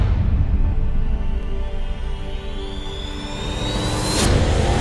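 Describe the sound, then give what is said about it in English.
A loud car engine rumbles steadily during a burnout, then revs upward with a rising whine near the end, capped by a brief burst of roar. No one speaks. “Listen to that bad boy.”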